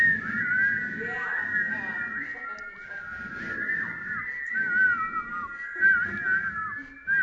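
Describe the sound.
Several people in a church in the Kootenays whistle together in a sustained, wavering high tone that runs through the whole stretch, with a low murmur of voices and crowd noise underneath.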